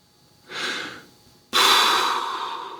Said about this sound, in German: Schnaufte der Bühnenbildner.